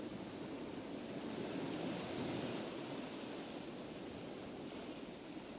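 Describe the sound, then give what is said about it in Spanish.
A steady, broad wash of surf rolls on without pause, a soft continuous roar of ocean waves breaking on the shore with a gentle swell in the middle, no voices present. “Miras ese mar que te habla.”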